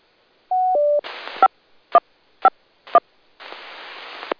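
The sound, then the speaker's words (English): A sequence of Central Carolina Skywarn activation alert tones: two steady beeps, then a burst of static, three short evenly spaced chirps, and a longer hiss of noise, loud and with no voices. “Can I bring up the Skyborne tones? We have an activation.”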